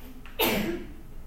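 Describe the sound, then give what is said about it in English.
A single sharp sneeze bursts out abruptly after a brief intake of breath, loud and hissy at first, then trailing off over the next half second. No one speaks. “Bless you.”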